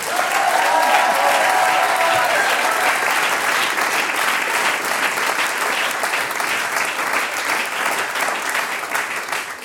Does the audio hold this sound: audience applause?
yes